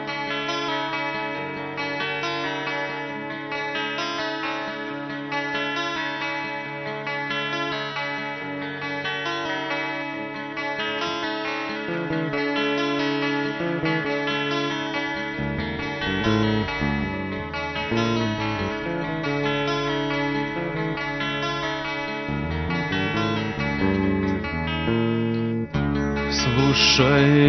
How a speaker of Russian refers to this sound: Давайте еще послушаем песенку какую-нибудь. Давай. Под влиянием Кастанеды.